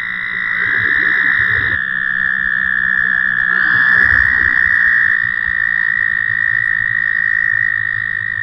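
A steady, high-pitched whirring trill from male American toads calling from a marsh, sustained without pause and fairly loud, with overlapping calls swelling slightly at times over a low background hum.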